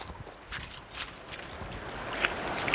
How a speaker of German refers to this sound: Ja, viel Digga, man hört schon so langsam die die Kulissen hier. Schön. Ihr kriegt jetzt ein paar Wasser-ASMR-Sounds.